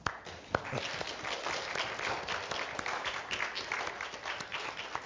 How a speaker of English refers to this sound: Thank you. We should clap.